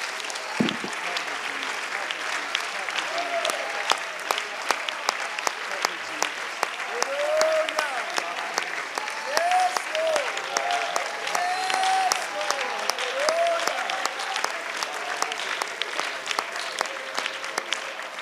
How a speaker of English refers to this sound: Would you lift your hands? Would you clap your hands? Lift your voice. Give the Lord a hand clap of praise.